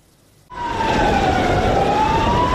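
After a brief near-silence, an emergency siren bursts in loudly, its wailing tone sagging slowly and then climbing again over a broad, rumbling noise bed. No one speaks.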